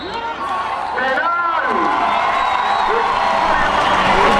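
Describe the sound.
A large football stadium crowd roars and cheers as the players celebrate with fans in the stands after a goal making it 2-1, a dense wash of voices that swells after the first second and stays loud, with some individual shouts rising out of the noise.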